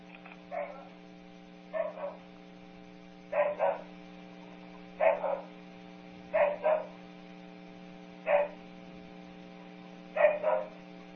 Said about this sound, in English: So this first bark, I think it should be a harsh bark. We'll see.